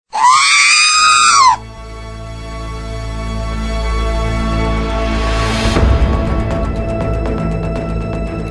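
A loud, piercing scream bursts out for about a second and a half, then cuts off into a sustained electronic drone that swells and rises before settling.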